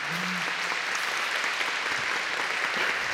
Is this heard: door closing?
no